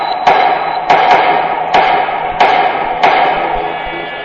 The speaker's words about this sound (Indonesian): Saking heningnya, aku bisa mendengar suara palu yang menggema di ruangan ini.